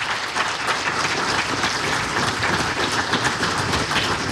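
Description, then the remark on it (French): Steady audience applause fills the whole stretch, a dense, even patter of many hands clapping at once, fairly loud, with no talking over it. “Je crois qu'ils méritent les applaudissements.”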